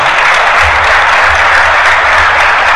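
Steady, dense applause from an audience, a loud continuous wash of many hands clapping for the full few seconds without a break, with no voices over it.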